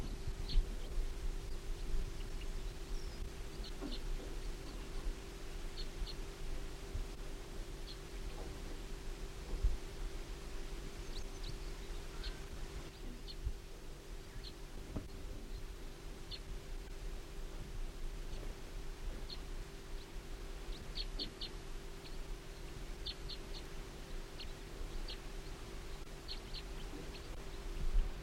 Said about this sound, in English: Wild bird. Wild. Wild bird in song.